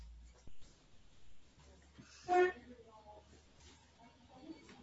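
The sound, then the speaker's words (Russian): A door closes: a short knock early on, then a louder creaking swing and thud about halfway through, with faint room noise and murmuring voices around it. “извиняюсь, я закрою дверь.”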